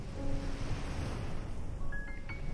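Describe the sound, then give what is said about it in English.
Soft ocean waves wash steadily onto the shore of a sheltered cove with smooth rock walls, in a continuous, gentle rush, with a faint breeze and a few thin tonal glints drifting over the surf. “Gentle waves rolling in.”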